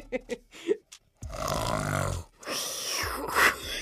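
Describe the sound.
A person in a studio imitates a lion's roar: a few short snorts, then two long, loud, growling roars with a gravelly, strained rasp.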